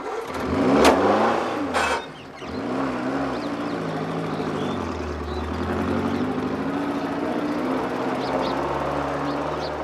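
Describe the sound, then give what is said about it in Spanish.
An open-top car's engine sputters to life with a couple of sharp bursts and revs, then settles into a steady, moderately loud drone as the car pulls away carrying Nehru and Azad and keeps driving. “Germán se pone al volante y parten.”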